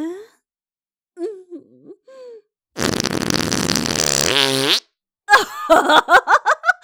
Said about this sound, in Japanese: 死んじゃえ死んじゃえ死んじゃえ、おならで死んじゃえ